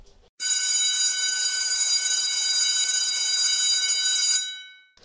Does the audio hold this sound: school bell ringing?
yes